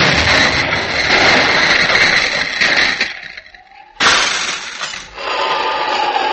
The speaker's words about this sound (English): There's an explosion and broke the window of the cottage.